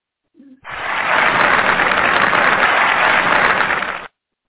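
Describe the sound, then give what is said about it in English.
A saved canned applause sound effect plays alone: a dense, steady wash of clapping with a thin, muffled tone that lasts about three and a half seconds and then cuts off abruptly. “Hold on, I have an applause thing here somewhere I've saved.”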